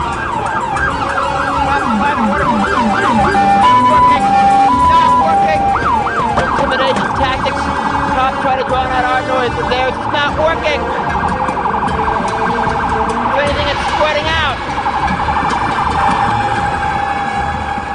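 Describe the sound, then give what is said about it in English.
A loud fire alarm wails continuously with rapid rising-and-falling siren sweeps and brief steady tones, over a busy background hum throughout, ringing at 601 13th Street, the building where a fundraiser was held. “A fire alarm was ringing and two fire trucks responded to 601 13th Street where the fundraiser had been held.”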